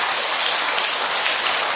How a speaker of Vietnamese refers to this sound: Rồi quý hóa quá, một tràng pháo tay thưa anh chị em.